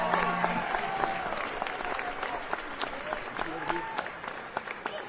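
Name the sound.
audience applause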